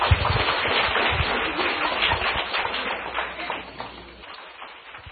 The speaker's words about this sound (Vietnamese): Xin quý vị một tràng pháo tay.